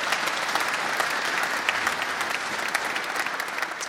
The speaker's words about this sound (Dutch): Zullen we gewoon uit, gewoon dat we zo blij zijn met de organisatie, een applaus voor hen. Vanuit dankbaarheid, dank jullie wel.